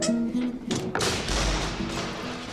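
A door slams shut: a couple of sharp knocks followed by a heavy, booming thud, with a faint steady tone lingering in the background and no one speaking.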